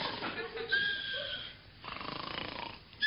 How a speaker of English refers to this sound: What's that? I can hear a noise like snoring, too. So can I. I think it's coming from that filing cabinet. Well, open the drawer. There, go on, the one marked S. Right, yes. I say, there's a man sleeping inside.